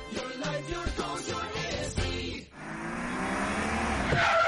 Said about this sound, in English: Whoever just hit those brakes hard for no reason was definitely not you.